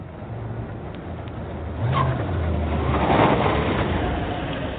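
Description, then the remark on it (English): A big silver car's engine rumbles outside a house on Juniper Avenue, its pitch rising as it approaches and then settling into a steady idle as the vehicle pulls up and stops, with no voices. “Outside, a big silver car arrives.”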